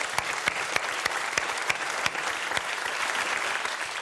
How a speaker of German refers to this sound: Im Lachlabor, im Studio Franken. Und kann jetzt zu uns auf die Bühne hochkommen. Dicker Applaus.